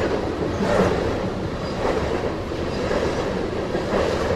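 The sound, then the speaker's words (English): A long freight train of well over 100 cars rumbles steadily past, its cars rolling over the rails and railroad ties with a continuous heavy roar and faint rhythmic clatter, no voices present. “It must be well over 100 cars.”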